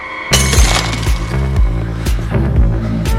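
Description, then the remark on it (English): Agent Franks' phone drops to the sidewalk with a sudden loud smash and shattering crack, followed by several sharper knocks and clatters over a low, steady droning background. “Franks' phone drops to the sidewalk.”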